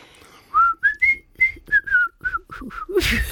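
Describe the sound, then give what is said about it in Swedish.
A person attempting to whistle a halting tune of about ten short, breathy notes that waver in pitch, fairly loud, ending in a sudden burst of airy noise like a blown-out breath. “Du, jag kan ju inte ens vissla.”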